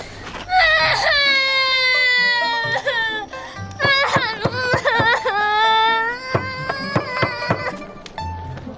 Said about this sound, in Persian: گریه رو ما اثر نداره.